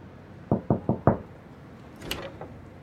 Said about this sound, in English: I remember knocking on the front door